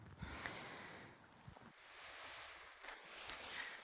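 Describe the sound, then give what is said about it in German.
Distilled water pours into a container for a chemistry experiment in a steady, hissing rush with a few small splashes, quiet, lasting a few seconds with no voices. “Und da wir jetzt hochwissenschaftlich sind, habe ich nicht nur zu viel reingekippt.”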